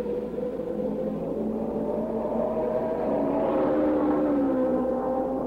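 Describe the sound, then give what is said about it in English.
A pack of 24 race cars roars off the green flag toward turn one at the start of a 150-lap race, engine pitch climbing and overlapping as they accelerate together, loud and steady throughout with no voices. “Off the green flag, 24 cars aim for the groove in turn one.”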